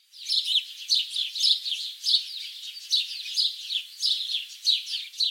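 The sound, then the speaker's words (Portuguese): Baby birds chirp continuously in their nests in a busy, overlapping chorus of high, thin peeps, steady throughout, with no voices present. “Havia constantemente nos ninhos novos filhotes que ficavam piando.”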